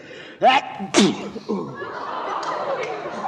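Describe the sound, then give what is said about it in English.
Two sharp, loud sneezes in quick succession, each a sudden breathy burst with a voiced edge, followed by quieter indistinct voices and background murmur. “Bless you.”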